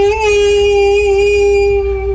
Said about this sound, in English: I just looked up ghost sound effect on YouTube.